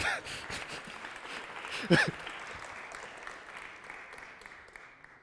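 A crowd claps steadily, a dense patter of many hands that holds for a few seconds, briefly peaks, then tapers off and fades out.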